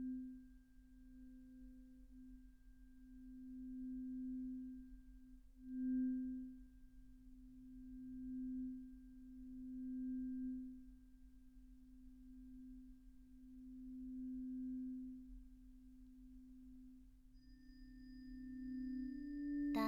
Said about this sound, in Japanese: こうして音叉の音色に耳を傾けていると、だんだんと心の波形もまっすぐに静かに落ち着いていきませんか？